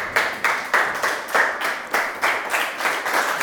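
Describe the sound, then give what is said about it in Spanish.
A church audience claps for Christ together in a steady, even rhythm, roughly ten crisp beats in a row, moderately loud with no voices over it. “Dame un aplauso a Cristo.”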